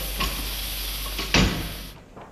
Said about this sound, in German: Ich weiß nicht, ob Sie das leise Pfeifen vernommen haben beim Herunterkommen des Kolbens. Das ist ein ganz sicheres Zeichen, dass einer der Zylinder etwas leck ist.